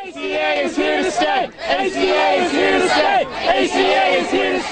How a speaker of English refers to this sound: There was celebration outside the court today after the decision came down.